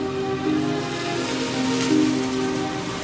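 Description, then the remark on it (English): Steady rain hisses continuously on two young men sitting on a bridge, a dense wash of drops with a low droning hum underneath. No one speaks; the downpour stays even throughout. “The faces of both lads are wet with rain, their hair flattened.”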